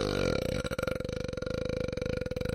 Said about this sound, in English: But I can see what a burp sounds like. It's like...